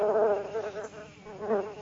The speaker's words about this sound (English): Mother Bear hears a bee buzzing.